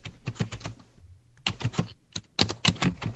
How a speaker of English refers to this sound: What? Is no one else hearing the typewriter? I hear the typewriter.